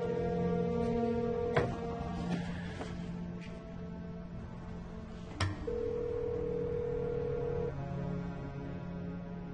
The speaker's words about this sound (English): Answer the phone! Wu looks down. On the phone screen, blocked. Incoming call.